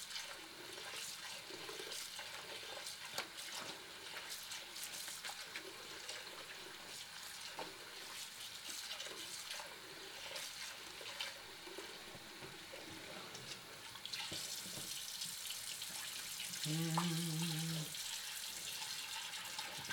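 household object, running water

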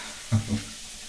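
household object, water running

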